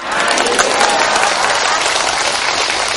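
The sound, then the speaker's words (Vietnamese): A crowd bursts into steady, dense applause, many hands clapping together for the full few seconds, loud and sustained with a faint murmur of voices underneath. “Đúng rồi, cho tràng pháo tay.”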